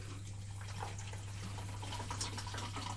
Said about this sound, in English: And that sounds a good drink of lemonade.